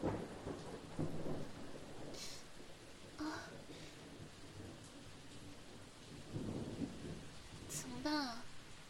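rain with thunder

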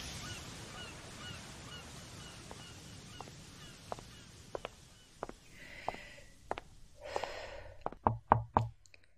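knocking on a door

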